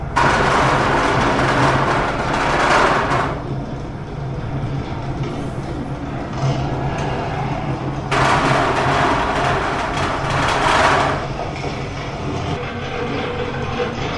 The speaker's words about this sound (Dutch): Op dit moment zijn we in Explorado in Oostende, maar eigenlijk zijn we midden in een orkaan, in een tornado. In de Verenigde Staten van Amerika wordt hier nagebootst, het schuilkelder. Het waait al, u hoort al waarschijnlijk een micro. Ook geluiden.